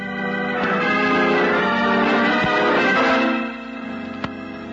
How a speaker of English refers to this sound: The bell.